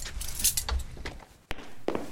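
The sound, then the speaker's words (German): A few clattering knocks, then a heavy iron door is pushed shut with a sharp, loud bang, followed by a key rattling and turning in the lock. No one speaks. “Doch genau in diesem Moment stößt Anna die schwere Eisentür zu und dreht den Schlüssel um.”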